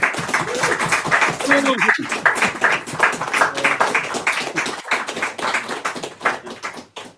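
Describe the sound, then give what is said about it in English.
An audience claps steadily for several seconds, a dense patter of many hands at fairly even loudness, with a few voices calling out underneath before the applause thins near the end. “I wasn't like, I will now pause heavily until you clap me or I'll not read any more points.”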